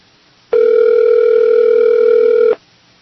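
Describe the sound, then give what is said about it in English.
A steady, loud telephone line tone as a call is dialed to a cell phone, holding for about two seconds and then cutting off cleanly, with no talking over it. “Calling my cell phone.”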